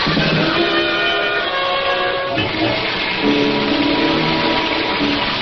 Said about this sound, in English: Oh, I don't mind rain. It's exciting. I'm just sorry we couldn't have the ride we planned. Oh, the rain's much too heavy for that.